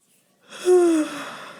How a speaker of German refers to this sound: Bei mir gähnt's schon wieder.